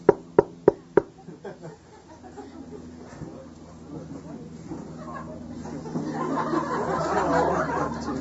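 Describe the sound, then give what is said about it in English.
Four sharp, evenly spaced knocks on a door ring out in quick succession, followed by a low murmur of voices and soft laughter that gradually swells. “And in the midst of all this tirade, there came a knock at the tent door.”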